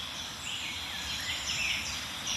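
A warbler sings a rapid, scratchy warbling phrase amid a dense chorus of at least four overlapping birds, with high chirps and trills running steadily throughout and no voices.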